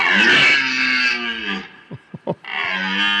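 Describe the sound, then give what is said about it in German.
A red deer stag roars during the rut: a long, harsh, rumbling bellow with strong harmonics, a few short grunting gasps, then another drawn-out roar. “Ein röhrender Hirsch.”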